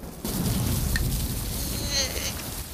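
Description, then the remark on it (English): A sudden loud crack of lightning strikes as a small animal raises an acorn above its head atop a severed tree trunk, followed by a sustained roar of thunder over heavy, steady rain. “He raises the acorn above his head as lightning strikes.”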